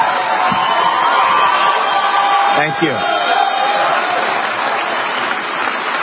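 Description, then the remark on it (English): A large crowd in Detroit claps and cheers continuously at a speech by Donald Trump, a dense, loud roar of applause that fills the whole stretch, while his voice speaks briefly over it. “Such a crowd. Beautiful.”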